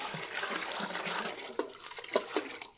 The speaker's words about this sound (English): Will you men take those buckets of water and pour them over the sacrifice? But the wood won't burn when wet. Assuming your lord answers you, of course. Keep pouring water until the trench is filled.